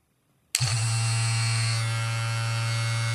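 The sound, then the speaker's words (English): After a short silence, a Hitachi wand massager switches on abruptly and runs on high and low settings with a loud, steady, low-pitched electric buzz that continues without a break. No one speaks. “That's my Hitachi on high, Hitachi on low.”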